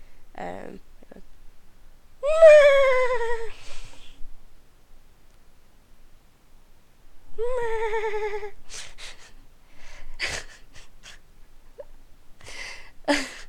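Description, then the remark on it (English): A person imitates a horse's neigh twice: two loud, quavering whinnies about a second long, separated by a pause, followed by a few short clicks and breathy sounds. “Next one is a horse. Horse goes neigh.”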